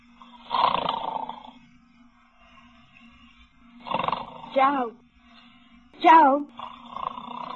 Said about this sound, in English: You were snoring. Oh, my God. You were snoring loud.